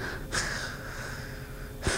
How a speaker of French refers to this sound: Ben surtout que généralement, tu sais, le bruit de ronflement, généralement, c'est des bruits qui énervent les gens. Mais c'est tout doucement.